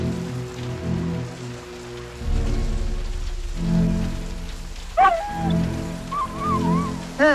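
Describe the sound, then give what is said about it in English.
Steady rain patters down throughout, a dense hiss with a heavier rumble midway, while some high whining, wavering tones rise briefly over it near the end. “Love talking to people, even on a rainy day.”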